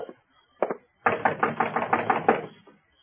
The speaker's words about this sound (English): Okay, hold up. Knock on the door.